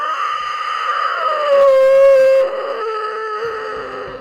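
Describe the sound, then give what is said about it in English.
A long, drawn-out creature scream heard from the distance, a harmonic wail that swells louder in the middle before its pitch sags and trails off, with no talking over it. “And as you do this, you guys peering off into the distance hear that similar old scream.”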